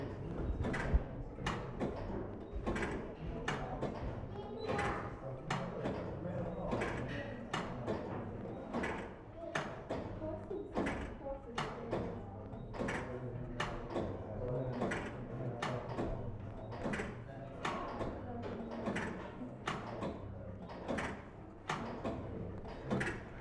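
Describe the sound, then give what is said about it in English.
A grandfather clock with a pendulum, made by E. Dent and Company, 61 Strand, London, AD 1870, number 1906, ticks steadily, about once a second, with crisp, evenly spaced clicks over a low continuous room hum for the whole stretch. “The last two clocks are both grandfather clocks with pendulums, standing 6 and 6.5 feet tall, respectively.”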